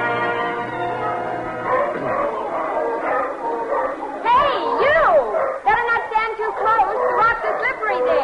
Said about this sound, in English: Can't hear a word you're saying. Seals are making too much noise.